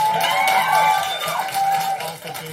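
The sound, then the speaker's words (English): A sign-toting crowd of parents against a school mask mandate cheers a vote result loudly and steadily, a dense mass of overlapping voices with high whoops and shouts rising and falling throughout, easing off slightly near the end. “But Fiorentini was the only no vote, and a sign-toting crowd of parents against the mandate cheered the result.”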